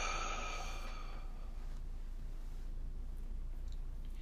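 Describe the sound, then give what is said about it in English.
During a guided deep-breathing exercise, breathing in through the nose and out through the mouth, a slow, breathy exhale fades out over the first second or so, leaving a quiet, steady hush with soft breathing. No one speaks. “Breathing in and out.”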